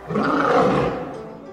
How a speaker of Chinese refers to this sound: 驻守在迷宫中的狮子 Lion 守卫发出怒吼，声音好吓人啊。